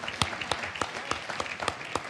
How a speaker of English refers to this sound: Yeah, why don't you give that a round of applause? I heard a clap there.